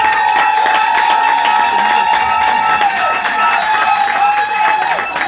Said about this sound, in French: De l'autre côté, est-ce qu'on peut applaudir très fort, s'il vous plaît?